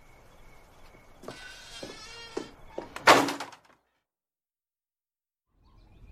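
A screen door is released by someone leaving and swings shut: a drawn-out, high creaking squeal from the hinge and spring, then one sharp, loud clap as it hits the frame, followed by silence.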